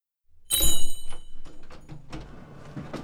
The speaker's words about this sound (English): Hazel opens the shop door and walks straight in.